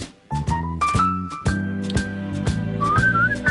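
A person whistles a bright, sliding melody over a bouncy instrumental accompaniment with a steady rhythmic beat, the whistled notes clear and prominent throughout.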